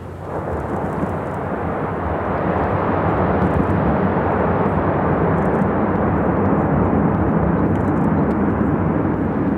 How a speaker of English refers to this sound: Whole sections of the glacier face just fell away into the sea. Huge waves now rocking the boat. There's more. Great chunks of ice fell into the water, then raised up again like a broaching submarine to float as small icebergs.